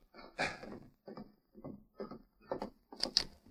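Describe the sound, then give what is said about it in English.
A series of about six hollow knocks on the wooden door of the Miller ranch house, spaced roughly half a second apart, with the last couple sounding sharper and brighter. No voices are heard. “Miller was cleaning and oiling a gun when he heard a rap on the door.”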